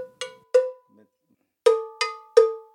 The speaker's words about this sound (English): About 30 bells line the shelves along one wall. They're different sizes and shapes to make different sounds.